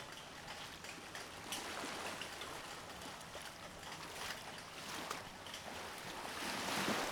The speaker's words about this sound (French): Je m'en remets à l'océan, au tumulte des vagues, à la joie des éléments.